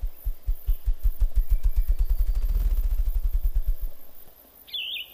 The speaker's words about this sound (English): With each stroke, a muffled thump of remarkable drum-like resonance is heard. The tempo increases until a gentle muffled tattoo, like distant thunder, echoes across the glade.